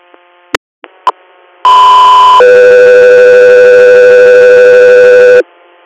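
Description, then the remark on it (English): After a few short radio clicks, a loud steady pitched tone sounds briefly, then drops straight into a lower tone held for about three seconds, a classic two-tone dispatch page preceding an inter-hospital response call from Courtland, New York, to Sayre, Pennsylvania. “Echo 3 here, stand by for tones.”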